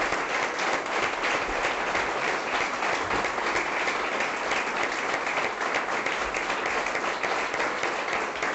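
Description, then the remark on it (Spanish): A large audience applauds steadily and continuously at a Unión Progreso y Democracia event in Madrid, a dense wash of many hands clapping at an even, sustained loudness with no voices standing out. “Un aplauso, se arropan, ¿no?”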